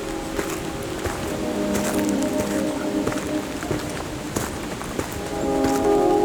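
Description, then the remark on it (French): A steady windy rush with scattered, irregular footsteps crunching, over a faint humming drone; no one speaks. “Vibration du vent et de vos pas.”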